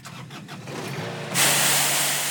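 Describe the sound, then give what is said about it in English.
A tricked-out golf course lawnmower with a rotating plastic brush roller, used to sweep snow off the ice on Lake Maury, cranks with a few rhythmic, chugging pulses, then catches and bursts into a loud, steady, rough roar with a hissing edge. No one speaks. “Mark Avery spends 3 or 4 days a week out here on Lake Maury riding his tricked-out golf course lawnmower.”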